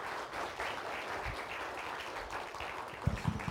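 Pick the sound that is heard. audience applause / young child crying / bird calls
audience applause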